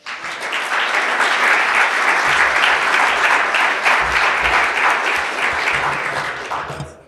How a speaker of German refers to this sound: Und wir sind sehr froh, dass wir Anna von Netzpolitik.org als Referentin hier haben. Vielen Dank, Anna. Dein Applaus.